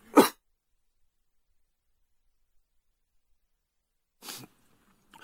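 A speaker giving a sermon lets out a sharp, loud cough, followed by about four seconds of silence and then a second, softer cough. No one speaks.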